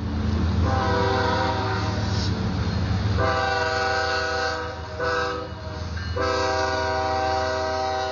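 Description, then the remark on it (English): A long freight train of over 100 cars, many carrying hazardous, flammable materials, rumbles past near a derailment site, its deep continuous roar steady throughout, while a loud horn sounds in several long blasts with brief gaps between them. “And as we were standing there talking, you know, one of these trains came past.”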